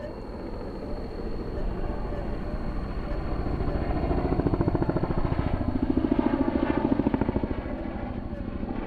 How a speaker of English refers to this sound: The Okanagan County Fire Department just blew by me here, and it looks like National Guard or Federal, the helicopter here is just pinpointing specific structures to save here.